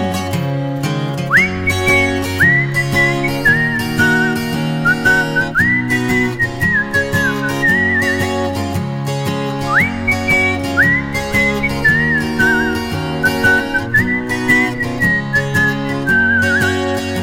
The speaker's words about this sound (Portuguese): No caminho assoviando a melodia de velhos tempos e uma antiga canção.